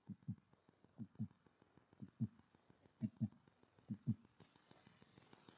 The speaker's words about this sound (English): Lord, I want to hear your heartbeat.